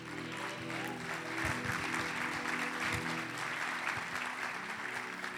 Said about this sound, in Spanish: Se parece aplauso de los mormones, no los hijos de Dios.